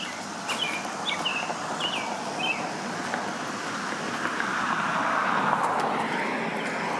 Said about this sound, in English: Car going by, right side, right after I decided to record.